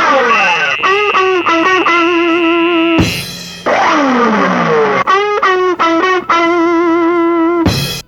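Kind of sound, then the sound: human body sound, person humming a tune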